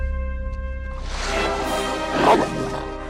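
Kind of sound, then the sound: animal, large dog barking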